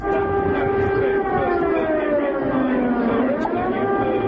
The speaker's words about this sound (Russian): Ровно полдень звуки воздушной тревоги снова напомнили гражданам Сербии весну 1999 года. Сирена звучала память о погибших в результате натовских бомбардировок.